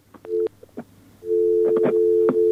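telephone busy tone

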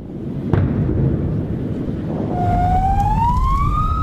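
ambulance siren

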